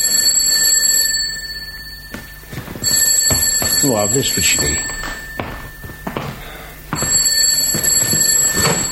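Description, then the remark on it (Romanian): A telephone rings in three shrill, high-pitched bursts separated by short pauses, each ring steady and loud, while a person speaks briefly over the middle ring. “Nu, pe mine mă sunase.”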